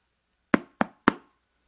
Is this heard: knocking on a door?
yes